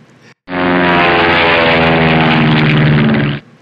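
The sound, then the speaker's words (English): A propeller airplane flying to Vienna drones loudly and steadily for about three seconds, a continuous engine hum that cuts in and out abruptly, with no voices. “So Foot, Foot picked up the phone, ordered 3 tickets to Vienna one way, and off they went on the next plane to Vienna.”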